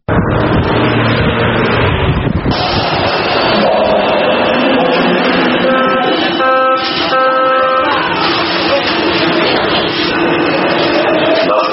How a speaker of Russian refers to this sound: Вот такой шумовой фон встречает каждого варшавянина, когда тот утром выходит на улицу, направляясь на работу. Рев автомобильных двигателей, пробки, гул сотен разговаривающих пассажиров в общественном транспорте.